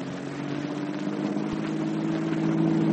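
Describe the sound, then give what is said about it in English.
A car driving in from the Rossville airport, with a steady low engine drone and a broad rushing road noise that holds even throughout and swells slightly toward the end. No one speaks. “The trio are now in Johnny's car, driving in from the Rossville airport.”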